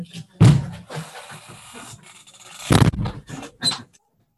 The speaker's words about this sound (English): I'm going to close the door. You want to stay in here? What you're calling? I'm closing the door.